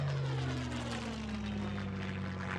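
A propeller engine of a basic World War II plane made of wood and canvas drones steadily and loudly overhead, its buzzing pitch sliding slightly lower as the plane passes by. No voices are heard.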